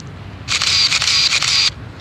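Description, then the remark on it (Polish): A Nikon film camera being loaded with film: a steady mechanical whirring and ratcheting lasting just over a second, bright and crisp, with quiet pauses before and after and no talking. “Ja pracowałem praktykami, miałem Zenity, to jest Nikon, w tej chwili będę zakładał film.”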